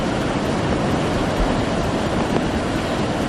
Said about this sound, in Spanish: así sonaba el río Cadagua a su paso por la localidad de Güeñes, en Vizcaya, que ha obligado a cortar varias calles.